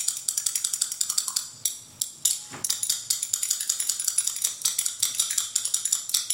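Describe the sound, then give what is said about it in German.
Spoons played as percussion, clacking in a fast, steady stream of bright, crisp clicks with a few louder accents, continuing without any voices for several seconds. “Der hat hier die Löffel bedient.”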